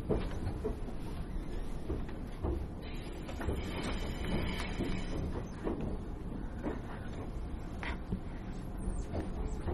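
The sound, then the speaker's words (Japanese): Steady low rumble of a train rolling along the rails, with rhythmic clunks and rattles running continuously at moderate volume, heard from inside the car; no voices. The train is leaving the Odakyu Odawara Line and entering the JR Central Gotemba Line, arriving at Matsuda station, Japan. “列車は小田急電鉄小田原線と分かれまして JR 東海御殿場線内へ入ってまいります。”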